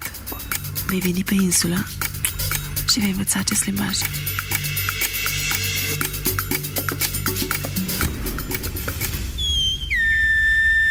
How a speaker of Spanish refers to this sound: a él se le ocurre la idea de ir a La Gomera, aprender el silbo gomero y así poderse comunicar con los mafiosos sin que la policía rumana se entere.